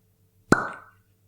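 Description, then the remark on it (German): A single crisp pop of a cork pulled from a whisky bottle, fairly loud, with a short hollow ring trailing off, against a faint low hum. “Gucken, ob wegen dem Korken, ich bin ein bisschen vorsichtig, dass da hier nichts schief geht.”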